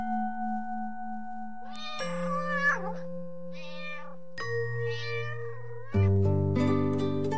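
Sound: cat meowing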